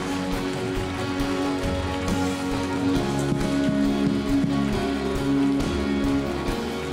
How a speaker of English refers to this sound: Come on, keep on clapping as people keep on moving. We're just not going to stop.